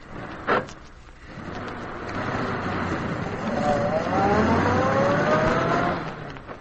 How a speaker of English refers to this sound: What was it, Squeaky? Well, it sounded to me like an automobile starting up and going off.